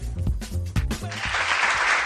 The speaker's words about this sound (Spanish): Y este aplauso porque, oye, nos ha hecho gracia esta noticia.